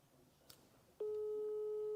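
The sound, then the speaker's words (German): A steady, loud telephone ringing tone of an outgoing call, waiting for the other person to answer, begins abruptly halfway through and holds at a single mid-low pitch, following a quiet stretch of faint background noise with one soft click. “Es hat jetzt schon öfters geklingelt, ist auch wichtig.”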